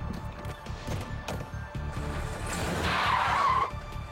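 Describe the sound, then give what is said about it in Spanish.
A stolen car's engine roars as tires screech sharply while a couple speeds away from a hotel parking lot, the squeal swelling to a loud peak near the end before cutting off, over a steady low rumble. “Se alejaron a toda velocidad.”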